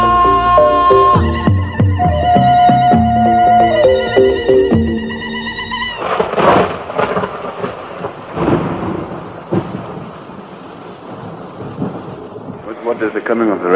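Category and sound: nature, thunderstorm with heavy rain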